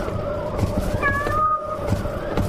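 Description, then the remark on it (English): A small black house cat gives one short, high meow that rises and then holds its pitch, heard in strong wind at a house door, over a steady low hum and a rumbling, noisy background. “It sounded like a friggin' house cat.”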